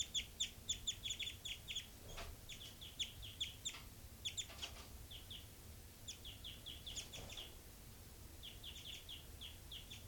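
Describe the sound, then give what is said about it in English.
Two birds trade short, high-pitched flight calls in quick bursts, one bird labelled 3-3 calling and the other, 5-9, responding back and forth over a steady low rumble, with no voices present. “Both birds. 3-3. And 5-9 respond.”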